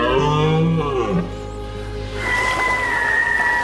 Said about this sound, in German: Ein Hirsch, der in der Dämmerung singt. Sein Ruf wie ein Echo aus Jahrhunderten.